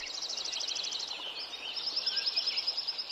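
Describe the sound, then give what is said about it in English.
A dense forest meadow soundscape at Lincoln Meadow, Yuba Pass, California, recorded before the forest was logged: overlapping birdsong, rapid, high trilling chirps repeating continuously over a soft ambient hiss, with several birds calling at once and no voices. “Kraus's recording of Lincoln Meadow at Yuba Pass, California. Here it is before the forest was logged.”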